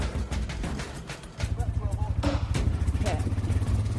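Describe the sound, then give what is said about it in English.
A small single-cylinder 5 horsepower Briggs & Stratton go-kart engine chugs, starting up after about a second and settling into a steady, fast putter that runs to the end. “It's a 5 horsepower. 5 horsepower, Briggs & Stratton.”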